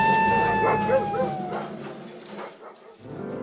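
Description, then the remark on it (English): Golden retrievers getting off leash bark and yip, opening with a high, falling whine before a flurry of quick, excited barks that fade into a lower rumble of background noise. “My dogs! They're getting off leash! No, dogs, don't run into those talking bushes!”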